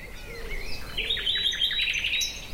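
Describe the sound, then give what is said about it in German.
Birds chirp and sing continuously, a mix of bright, rapid twittering notes and trilling phrases at moderate volume, with no voices and a quiet outdoor background. “Es ist still, ich höre diese Vögel.”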